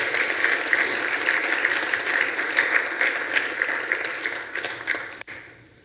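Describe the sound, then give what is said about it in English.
An audience at a morning service claps together in a sustained, dense burst of applause for Christ that stays steady for about five seconds, then quickly fades away. “Can you clap your hands for that one this morning?”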